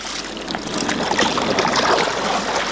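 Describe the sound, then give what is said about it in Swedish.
Oars dip and pull through water as a crew rows a light boat built for both rowing and sail, one side backing water while the starboard side rows, a steady wash of splashing and churning with no voices, sustained and fairly loud throughout. “På vår sida, stryk. Styrbord sida, ro.”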